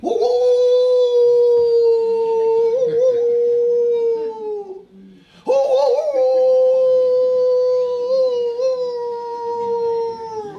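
howling

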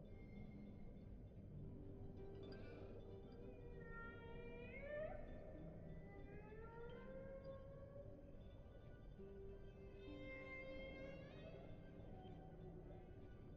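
whale song

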